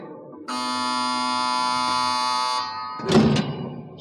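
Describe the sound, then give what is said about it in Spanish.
A loud, steady electric buzz with a harsh, harmonic-rich tone drones for about two seconds, like an automatic door release, then cuts off into a short burst of clattering noise. “Ese zumbido es semejante al de una puerta que se abre automáticamente.”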